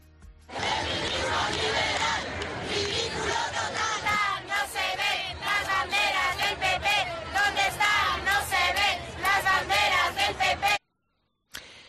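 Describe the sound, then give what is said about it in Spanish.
A loud crowd at a demonstration in Madrid, including government ministers, chants in unison against the opposition parties Partido Popular and Ciudadanos, with rhythmic bursts of many shouting voices repeating a slogan over a steady roar, before cutting off abruptly near the end. “Pero ¿alguien me puede decir qué hacían las ministras ayer coreando contra la oposición?”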